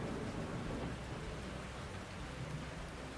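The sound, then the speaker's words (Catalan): Steady heavy rain pours down in a dense, hissing wash, with low rumbling thunder rolling underneath throughout. No voices are heard. “Aleshores sí que va prometre enviar una flota militar per ajudar-los, que mai no va arribar per culpa d'una tempesta.”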